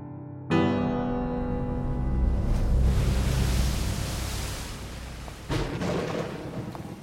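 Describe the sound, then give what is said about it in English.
A storm lashes city streets with a dense, steady roar of wind and rain, broken by a loud sudden burst near the start and another heavy surge toward the end. No voices. “Underworld City never felt cold, but now a storm lashes the streets.”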